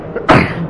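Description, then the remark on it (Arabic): A single sharp, explosive sneeze bursts out, loud and brief, with a faint breathy intake just before it and no talking. “يرحمك الله”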